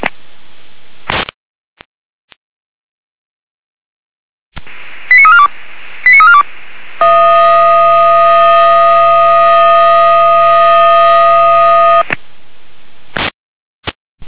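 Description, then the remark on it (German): A fire brigade radio alarm sequence alerting volunteer fire brigade units to a fallen tree: a couple of short beeps, then a long sustained multi-tone alert blaring steadily for about five seconds over faint static, ending with brief clicks. “mit der Alarmierung.”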